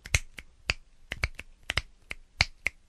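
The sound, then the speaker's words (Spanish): A rapid series of about twelve crisp, fairly loud finger snaps in a loose irregular rhythm with no talking. “Otro tronando los dedos. O chasqueándolos.”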